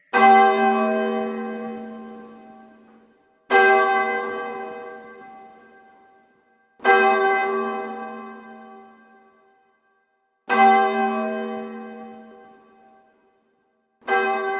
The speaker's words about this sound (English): Ring the bells of mourning.